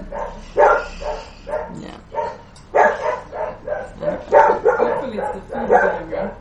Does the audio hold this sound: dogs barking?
yes